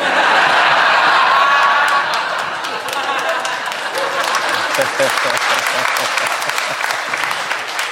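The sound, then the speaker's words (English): An audience breaks into sustained applause, loud and dense at first, then settling into steady clapping with scattered cheers and murmuring voices mixed in. “You applaud now.”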